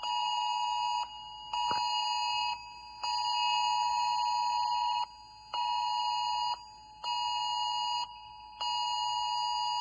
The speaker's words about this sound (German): Eine Stunde lang gab es Alarmsignale über die Sirenen, man konnte es überall hören und auf die Mobiltelefone, auf die Handys bekamen die Menschen ein Alarmsignal, ein schrilles Alarmsignal. Ich blende Ihnen das kurz ein, ich habe das gefilmt.